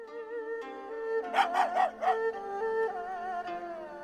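A small dog whines in long, high, wavering tones, broken midway by a quick run of four sharp yips before the whimpering resumes; fairly loud, no talking.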